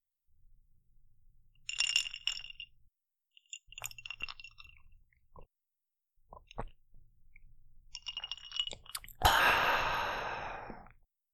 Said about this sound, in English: He takes it and smiles and gestures for you to kneel beside him as he sits down, sipping his drink.